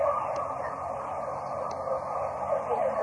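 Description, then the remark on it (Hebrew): A fire engine siren wails steadily outside, its tone wavering slightly as it passes, with no voices over it. “מה זה, סירנה?”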